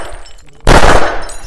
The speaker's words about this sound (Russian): Блять, чё ты творишь? Последнюю бутылку разбил.